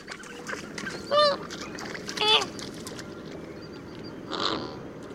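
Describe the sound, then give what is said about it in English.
Several nasal, goose-like honks ring out at intervals over a steady outdoor background hum, a flock of flamingos calling, with no one speaking. “Finally, on the South Florida Roundup, flamingos may not yet officially be Florida's state bird, but now they are Miami-Dades.”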